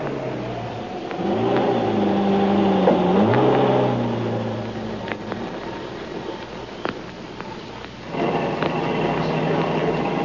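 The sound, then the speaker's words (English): A taxi's engine revs and accelerates as it follows another car, pitch sweeping upward through several gear shifts, then settles into a steady driving hum with faint rattles before rising again near the end. “You see that car turning the corner? Follow it and don't let it out of your sight.”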